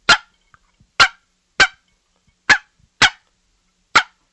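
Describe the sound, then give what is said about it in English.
Six sharp, loud turkey clucks made on a game call, imitating turkeys feeding, each a short percussive pop, spaced unevenly about half a second to a second apart, with nothing else around them. “but we're going to do a cluck when the turkeys are feeding.”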